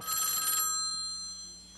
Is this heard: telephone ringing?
yes